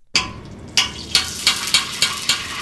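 A steady sizzle of kettle corn cooking in a homemade kettle outside a Walmart in suburban Kansas City, with a series of rhythmic scraping strokes as it is stirred, about every half second; no voices.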